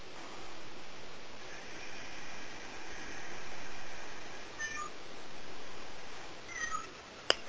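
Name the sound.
cat meowing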